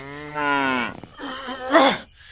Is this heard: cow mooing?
yes